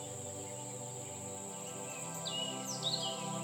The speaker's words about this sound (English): You can hear lots of different birds.